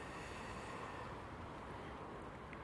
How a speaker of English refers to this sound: It's a mixed sky, dark clouds, light clouds, little patches of blue, no sunshine. Raining, I'm leaning against the fence panels to stay off the light rain. It's very windy.